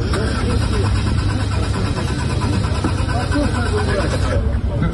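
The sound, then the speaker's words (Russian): The engine of a Lada Aura prototype car, presented at a forum, cranks over and over with a steady, rhythmic churning but never catches, running continuously for several seconds while people talk in the background; AvtoVAZ later said the car's protection system had been triggered. “Не заводится? Ну, это прототип, подождите.”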